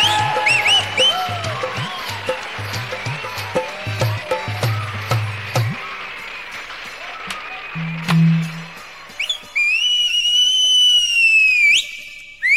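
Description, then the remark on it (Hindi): Amid a noisy, bustling crowd with scattered sharp claps and a low hum, someone lets out a loud, sustained whistle that bends in pitch and carries for a couple of seconds near the end. “ये सीटी क्यों मार रहा है?”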